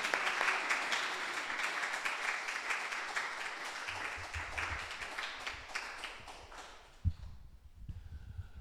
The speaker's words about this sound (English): So without further ado, I would like to welcome Dr. Michael Rice and give him a round of applause.